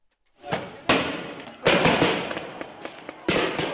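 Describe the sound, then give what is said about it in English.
Three or four loud, sharp bangs go off at irregular intervals as police fire tear gas at anti-government protesters in Taksim Square, Istanbul, Turkey, over a constant roar of crowd noise and scuffling in an outdoor street clash. “Police fired tear gas and water cannons into the crowd, and some protesters fought back with rocks and Molotov cocktails.”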